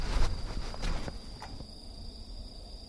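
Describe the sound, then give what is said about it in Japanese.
A steady, high-pitched insect trill drones on without a break, like crickets singing from one spot, heard while stopped during a bicycle ride, with a few soft thumps and rustles in the first second or so and no voices. “こんな感じなんですけど、つまり一ところで鳴いてる虫の声がずっと聞こえて、それがだんだん変わっていくんですけど、動くとねこのテクスチャがバーッと変わっていくんですよ。”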